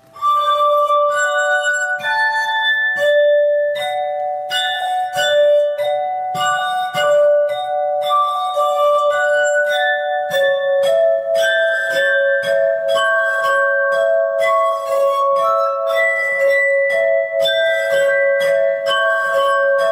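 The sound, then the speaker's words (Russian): The Blue Danube waltz by Johann Strauss played on a glass harp, its pure, ringing glassy tones sustained and overlapping, flowing steadily and fairly loud throughout with no voices. “Вальс «Голубой Дунай» в исполнении мастера игры на стеклянной арфе”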